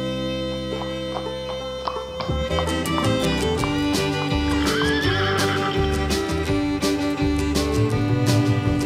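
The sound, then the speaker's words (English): A horse whinnies and neighs over a steady clip-clop of galloping hooves, the rhythm continuing loud throughout, layered with bright musical accompaniment. “Yes, I hear you galloping, I never hear you stop.”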